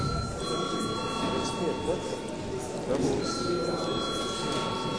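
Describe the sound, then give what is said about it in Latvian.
A session bell rings at a sitting of the Latvian Saeima with a steady, high electronic tone that holds for several seconds, briefly dipping midway, over a low murmur of people talking in the background. “Lūdzu zvanu.”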